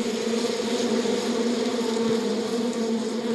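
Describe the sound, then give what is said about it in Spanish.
A dense, steady drone of many bees, some larger than others, buzzing around a hive, loud and holding an even hum throughout without pauses or voices. “Zumban de colmena en colmena, algunas más grandes que otras.”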